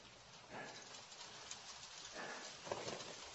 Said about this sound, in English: Damn, it's wet now. I can't believe I didn't think about the likelihood there'd be rain.